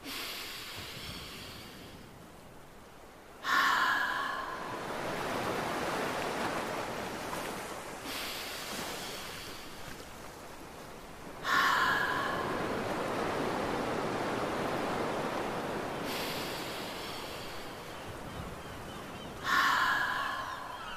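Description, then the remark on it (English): Slow, audible breaths imitate ocean waves: a person breathes in through the nose and lets the air out through the mouth, three long hissing exhales swelling and fading in steady rhythm, clear, each followed by a brief quiet pause. “Make a sound like the ocean. Nice work. I'll do three more ocean breaths.”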